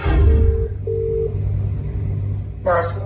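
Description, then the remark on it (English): A phone call to the caller's parents rings out over speakerphone, two steady electronic ring tones in quick succession over a low background rumble, followed by a brief crackle as the line connects. “So without telling my parents what I was up to, I gave my mum and dad a call just to tell them that I'd been selected for the Front Bar tonight.”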